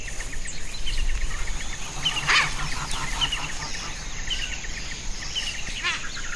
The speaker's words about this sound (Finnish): Äänimaisema muuttuu täydellisesti. Ne linnut, jotka laulavat yöllä, lopettavat ihan muutaman minuutin sisällä laulamisensa ja tulevat nämä päivävuorolaiset tilalle. Ja kyllähän täällä sirkutusta riittää.